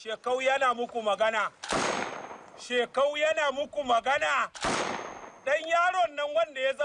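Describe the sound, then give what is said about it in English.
Shekau speaks loudly in a video released in February, and his speech is cut twice by sharp, loud bursts of gunfire, each a crack that briefly rings out before he resumes. “His speech is punctuated by gunshots.”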